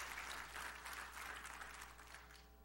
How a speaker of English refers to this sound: I know, you can amen and woohoo and clap that.